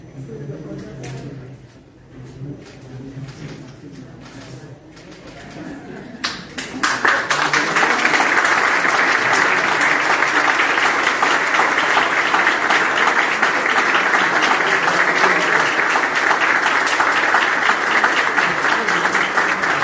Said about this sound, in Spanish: Y este caluroso aplauso sirve también para acompañar a la firma por parte de la nueva subdirectora del hospital,